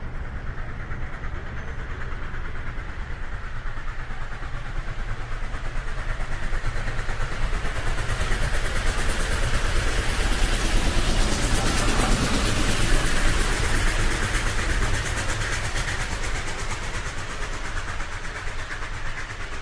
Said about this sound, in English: Well, as you can probably hear from maybe the sounds behind us, is we're now back on the Heathrow Express train heading back to Heathrow Airport.